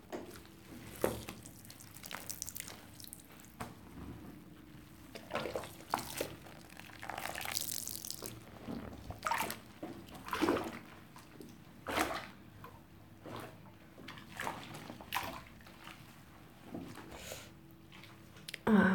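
Water sloshes and splashes in a bathtub with irregular bursts of movement as a person turns around to have their back washed, some squishy wet sounds and drips, moderately loud, with no one speaking.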